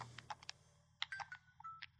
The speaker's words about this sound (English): Sorry, that little beeping in the background, if anyone heard that, was me putting my phone on silent. Oh. I hate how my phone makes sounds when I put it on silent.